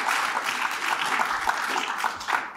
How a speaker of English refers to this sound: So if we could give a round of applause for all of our speakers in their introductory remarks.